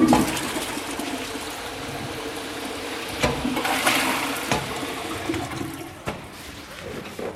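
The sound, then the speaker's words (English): A toilet flushes, a broad rushing swirl of water that surges and gurgles for several seconds, with a few sharp clunks and knocks breaking through the steady roar. “So I guess I better flush the toilet.”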